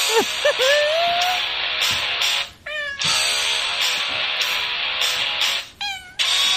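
A song performed in cat meows: a series of rising and falling meows, some drawn out into wavering cries, sung over a loud, continuous musical backing, with no one talking.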